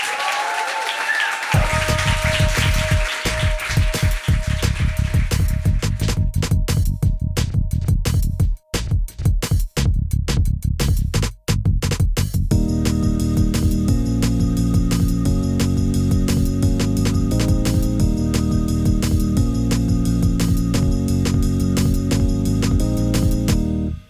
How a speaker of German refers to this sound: Wir bedanken uns mit einem feurigen Applaus